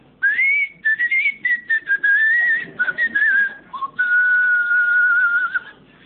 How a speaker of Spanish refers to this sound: A poco de llegar a Tacorde, o Tacorde, se escuchaban los silbidos de los habitantes, y eso es todo lo que dice John de Mandeville sobre la isla.